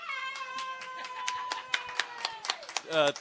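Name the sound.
audience clapping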